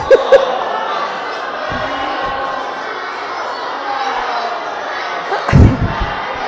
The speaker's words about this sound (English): And the congregation, you can cheer them on.